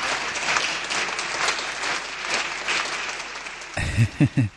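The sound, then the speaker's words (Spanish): A crowd applauds with dense, steady clapping for nearly four seconds, then the clapping gives way to a man's voice speaking at the end. “Esos aplausos que sugieren, por favor, una más.”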